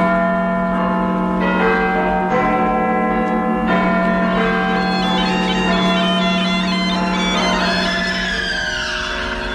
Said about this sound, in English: It started in Brighton, 1898, the year of the great Edison Bell. Yes, often I heard it ringing in the night.